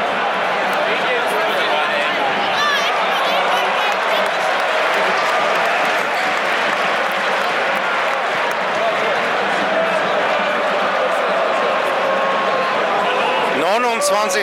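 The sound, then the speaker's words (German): A large stadium crowd of 22,002 football spectators at the Mellantor roars in a continuous, dense wash of voices during stoppage time of a match, loud and steady throughout with no pauses. “22.002 Zuschauer am Mellantor.”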